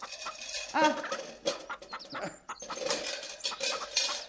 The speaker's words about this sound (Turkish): Artık kuluçkaya yatırmasan şu hayvanları. Fazlasıyla tavuğumuz var. Tavuk çiftliği kuracak değiliz ya.